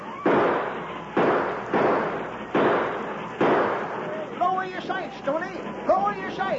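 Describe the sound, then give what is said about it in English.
Five loud, booming gunshots ring out in a steady, evenly spaced sequence, each with a rumbling tail, fired from a train at pursuers and going over their heads; then excited voices speak over the fading echoes. “You're shooting over their heads.”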